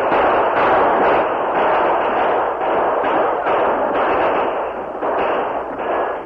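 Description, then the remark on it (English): A dense, continuous barrage of rifle fire in a battle between pioneers sheltering behind their overturned wagons and attackers riding in a circle around them, with many overlapping shots blurring into a loud, steady roar punctuated by faint repeated cracks, and no voices. “Say, do you think the floorboards of the wagons will stop rifle bullets?”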